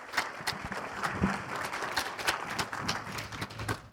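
A roomful of people claps steadily for a few seconds, a dense patter of many hands at moderate loudness with no voices over it.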